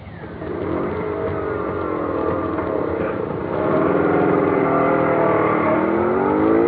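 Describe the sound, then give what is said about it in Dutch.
A scooter engine starts and runs loudly, its pitch climbing and falling as it revs, then surging louder partway through and holding a strong, steady drone. “Ja, hij gaat naar die scooter.”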